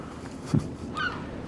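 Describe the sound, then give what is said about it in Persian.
A small kingfisher, perched and wagging its tail, gives one brief, thin call, fairly quiet against a soft background hiss, preceded by a dull low thump. No one speaks. “مرغ مایه خار کوچولویی رو تن من که جز تک تخته‌ای ازم باقی نمونده بود نشسته بود و هی فراش رو تکون می‌داد و هر از گاهی آوازی میخوند.”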